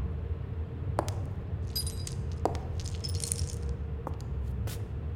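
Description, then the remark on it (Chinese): Custom-made metal chains locked on a struggling person clink and rattle in a few short bursts, with sharp bright jingles scattered over several seconds against a low, steady background rumble. “别做没有用的挣扎了，你身上的锁链是定制的，没有我的钥匙，谁也打不开。”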